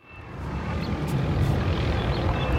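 A patrol helicopter roars overhead above a beach, ordering people to go inside, with a steady, heavy low rumble and a faint rotor throb, loud and continuous throughout, with no voices; recorded on an iPhone.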